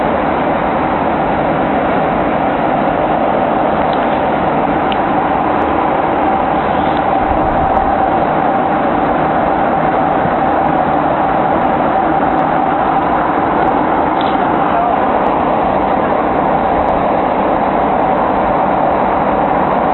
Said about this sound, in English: As you can probably hear right now, I was on the plane at the time of this recording. I was flying over the Atlantic.